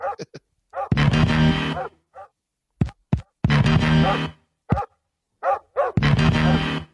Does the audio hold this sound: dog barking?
yes